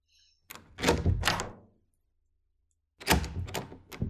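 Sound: door being opened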